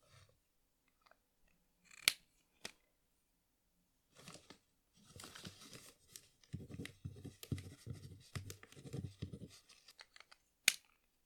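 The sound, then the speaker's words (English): A pen, taken with paper from beside a nightstand, scratches across the paper in quick, uneven strokes as a phone number is written down, fairly quiet, with a few sharp clicks and taps before and after the writing. No one speaks. “Ah, it's good that you have paper and pen next to your nightstand. Wait a second.”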